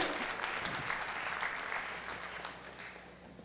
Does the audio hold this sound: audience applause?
yes